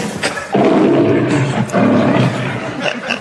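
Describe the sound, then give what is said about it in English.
A lion roars twice in quick succession, loud, each roar a deep rumbling growl lasting under a second, with a brief pause between them. “What are you doing to my lion?”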